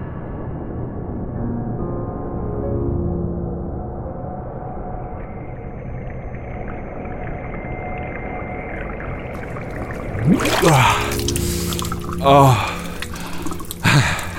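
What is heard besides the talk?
water splashing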